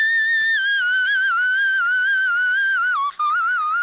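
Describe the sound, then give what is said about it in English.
A woman sings one very high whistle-register note, held for about four seconds with a gentle wavering vibrato, loud, dipping briefly near the end. No one talks. “she's singing the … style, the whistle”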